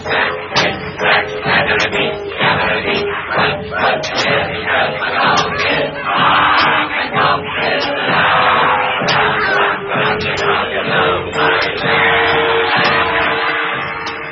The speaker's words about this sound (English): The goblins hurried Bilbo and the dwarves along with shouts and insults and cracks of the whip.